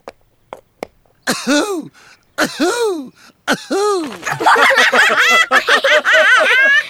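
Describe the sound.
A voice imitates a dog barking in a hoarse, cough-like way: a few short clicks, then three strong bark bursts, followed by a longer run of rapid, strained barking sounds, loud.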